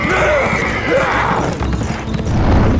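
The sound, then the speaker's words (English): A horse whinnies loudly over the continuous drum of galloping hooves as a rider beats his faltering horse, another horse and rider gaining behind, the pounding rhythm carrying on steadily for a few seconds. “Behind him, horse and rider gaining on him. He beat his faltering horse savagely.”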